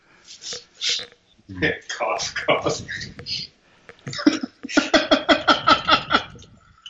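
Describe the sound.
A loud run of coughing fits, harsh bursts that rattle into rapid, voiced hacks toward the end, with short pauses between each spell.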